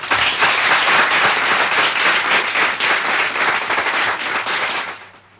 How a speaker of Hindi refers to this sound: महको तो ऐसा महको कि बहारों में होश आ जाए, तालियां ऐसा लगाओ कि कलाकारों में जोश आ जाए।